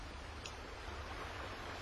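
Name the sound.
rain falling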